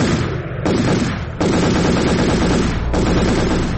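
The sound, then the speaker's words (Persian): Sustained, loud machine gun fire rattles in dense overlapping bursts, with new volleys kicking in every second or so and no pauses between them, fired by young people in Kabul celebrating a cricket team's victory. No voices are audible. “اما ایده از جوانان احساساتی ای پیروزی را با فایرهای مسلسل و پای هم تجلیل کردند که ای اقدام آرامش مردم در شهر کابل و سایر شهرها برهم زد.”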